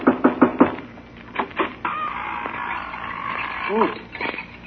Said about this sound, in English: Well, if we're going in to get the Wicked Witch, I better knock on the door.